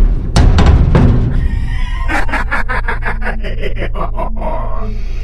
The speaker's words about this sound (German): Die Türen, sie fallen zu. Der eiserne Vorhang donnert krachend herunter.